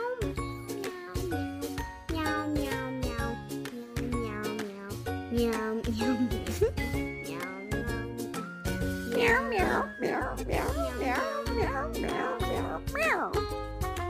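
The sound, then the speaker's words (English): A voice imitates a cat, letting out a string of quick, sing-song meows over bright, jingly background music that plays throughout. “That's the meowiest cat I've ever heard of.”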